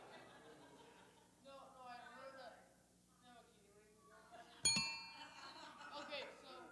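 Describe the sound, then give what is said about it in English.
Voices murmur and chatter, then a single deep-sounding bell, used by a contestant to buzz in during a fact-or-myth quiz game, is struck sharply, its bright ringing tones lingering for about a second as the talking carries on. “Yeah, and that bell has a deeper sound.”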